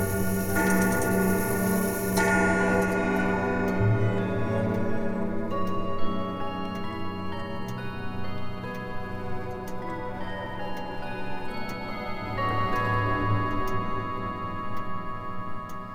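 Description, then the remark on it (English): A grandfather clock in a hall ticks steadily throughout, its regular beats set against a full bed of sustained, ringing chime tones that swell at the start and then hold evenly. No voices are heard. “The grandfather clock in the hall tells time by the moment, not minute. And it has just chimed.”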